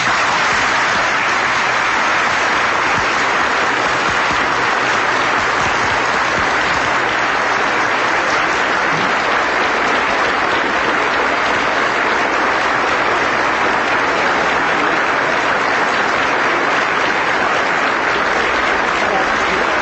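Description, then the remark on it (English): Sustained, dense applause from a large audience after President Reagan's speech at the World Affairs Council in Springfield, Massachusetts, a steady wash of clapping that holds at full strength for about twenty seconds without fading, with no voices rising above it. “As you can hear, a very enthusiastic reception to the President's remarks at the World Affairs Council in Springfield, Massachusetts.”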